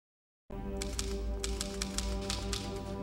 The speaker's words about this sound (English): He's typing away. And he reveals that the demons told him what to write.